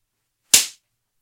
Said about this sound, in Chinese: 怎么，被鞭子抽的带感